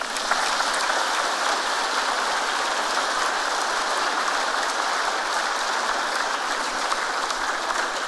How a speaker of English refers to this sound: That's why I said we give them a round of applause, and let's give them another one.